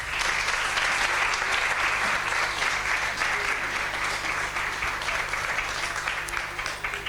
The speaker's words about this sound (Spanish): De nuevo, ovación para ellas.